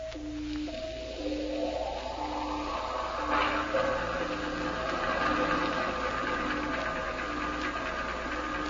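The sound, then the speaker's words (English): Heavy cruiser engines picked up on sonar: a muffled, steady mechanical throb with layered humming tones and faint rhythmic knocking, continuing unbroken throughout with no voices. “Sounds like a heavy cruiser, sir.”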